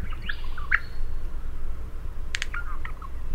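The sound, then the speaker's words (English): A wild male honeyeater of a rare Australian species, recorded during a field study, sings a few clear, whistled notes and sharp chirps, spaced irregularly, over a steady low outdoor rumble; the bird is moderately loud. “They found that a quarter of the birds sang variations of the traditional honeyeater song, and 12% of the birds weren't singing honeyeater songs at all.”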